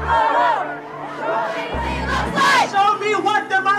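A large rally crowd chants and cheers in a dense wall of overlapping voices, with rising shouts swelling loudly midway and a low steady hum running underneath.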